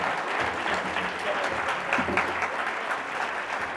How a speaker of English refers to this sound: And for our seven honorees, let's give them a warm round of applause.